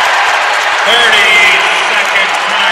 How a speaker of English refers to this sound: It is absolutely nuts. Timeout. Charles Grasty. Listen to the Coatesville crowd.